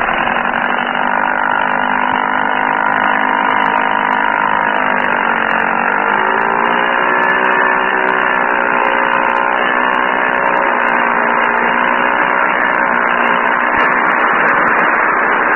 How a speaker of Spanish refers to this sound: La lancha se alejó veloz de la plataforma flotante.